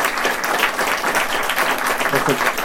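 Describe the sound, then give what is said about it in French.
Steady, dense applause from an audience for two speakers after a popular-science talk at a festival, many hands clapping at once at an even, fairly loud level, with a brief hint of a voice underneath near the end. “En tout cas, applaudissons nos deux intervenants d'aujourd'hui pour cette belle rencontre.”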